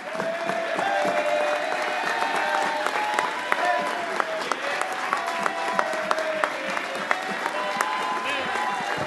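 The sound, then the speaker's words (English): A standing crowd applauds steadily for several seconds, a dense wash of many hands clapping with sharp individual claps popping out, and scattered voices murmuring and calling out beneath it, welcoming a preacher as he comes up to preach at an evening service. “Let's all stand, give him a big round of applause as he comes, please.”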